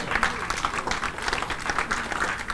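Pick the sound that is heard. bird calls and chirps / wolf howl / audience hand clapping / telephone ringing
audience hand clapping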